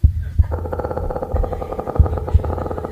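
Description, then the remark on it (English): A slow heartbeat thumps in deep, paired beats, lub-dub, roughly every second and a half, under a steady buzzing drone that fills the background. “Okay, now add Bill Hicks to the heartbeat.”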